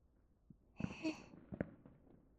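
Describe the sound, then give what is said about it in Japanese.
Fireworks going off faintly: a soft pop, then a brighter crackling burst with a hiss, and another dull boom shortly after, with no talking. “寄り添って花火を見ながら夜更かししちゃいましょう。”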